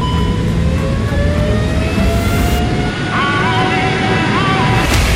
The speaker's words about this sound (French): Moteur, top décollage.